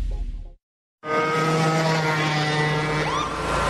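A lawnmower engine running fast starts after a brief moment of silence, a loud, steady, buzzing drone with a high, whining hum that holds constant to the end. No one speaks.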